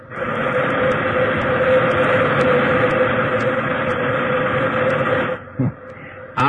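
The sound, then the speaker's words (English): A loud, sustained hiss of steam blasting from a locomotive at a hippo asleep on the track, roaring steadily for about five seconds before cutting off abruptly, leaving quieter rumbling behind. “All right, try a blast of steam.”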